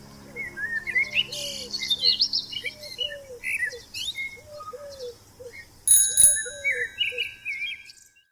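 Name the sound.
birds chirping and whistling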